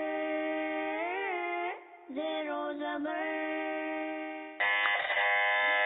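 A loud, buzzy electronic buzzer, pressed by a contestant on a Madani Channel quiz show during the fifth, pictorial round, drones for several seconds, wavering slightly in pitch and briefly cutting out before a brighter, harsher buzz kicks in near the end.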